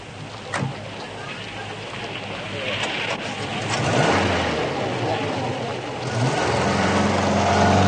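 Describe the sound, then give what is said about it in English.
A car engine rumbles steadily, then revs louder as the vehicle pulls away, with a low droning hum and whooshing wind-like noise building toward the end. “Pile into the car, everybody.”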